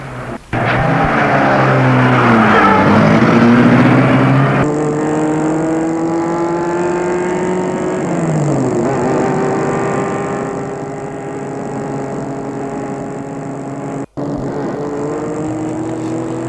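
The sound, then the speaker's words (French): A car engine rumbles to life as a man starts the car at night in Paris and pulls away, its pitch rising and falling through gear changes as it drives steadily, fairly loud, with no voices. “Ils vont vers la voiture et ils entrent dans la voiture. Puis, il la met en route.”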